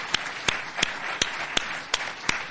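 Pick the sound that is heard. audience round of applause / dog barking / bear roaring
audience round of applause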